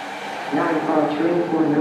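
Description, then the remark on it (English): Steady, crowded ambience of a busy BART train station at rush hour, with overlapping indistinct voices and a low mechanical hum that swells midway, like a train idling or pulling in. “A busy BART train station at rush hour.”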